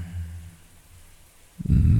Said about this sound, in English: Oh, it feels so good to get this warm water over me.